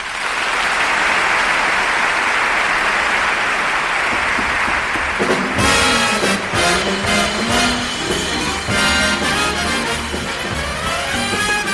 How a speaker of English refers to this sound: And nothing makes these fellows perform like a lot of applause when they hit the stage. So let's let them hear it.